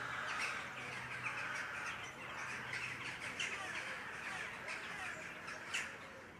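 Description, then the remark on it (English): A flock of birds cawing together as they fly over the rooftops of Killarney, harsh overlapping caws forming a busy, continuous chorus with a few louder calls standing out. A low steady hum runs underneath, and no one speaks. “and you see the tourists with their heads craned up, and when they cover the sky then they're like a black sea, and they make their, you know, they're cawing then as they fly. So that's a really characteristic sound of Killarney.”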